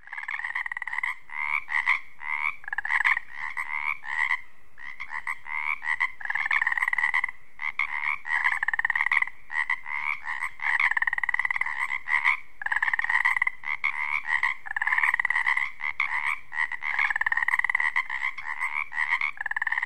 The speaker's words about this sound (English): As the daylight fades over this wetland, the Pacific tree frog comes to life. They're also known as Pacific chorus frogs.